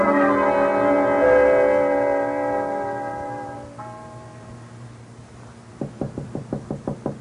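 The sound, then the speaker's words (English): A sustained musical chord swells and fades away, then a quick run of about seven firm, evenly spaced knocks on a door, with no voices. “Somebody knocking?”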